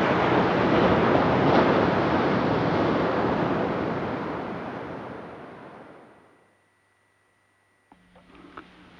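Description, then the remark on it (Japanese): Loud, broad roar of surf washing ashore at Nakahama in Yamamoto town, an earthquake disaster area, swelling and then slowly fading to near silence, followed by a faint hum and a few soft clicks near the end. “まあ、本当にこの波の音を聞くと辛いと、思われる方もまだたくさん、いらっしゃるのがこの、被災地の現実だと思います。”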